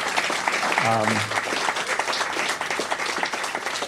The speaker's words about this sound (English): And let's then give these two lovely ladies a great round of applause. Thank you very much.